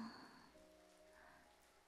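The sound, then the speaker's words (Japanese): Light rain begins to fall after overcast skies, pattering softly and steadily, a faint, even hiss of drops with no voices, continuous for the whole moment. “曇っておったが、いよいよ降り出したか。”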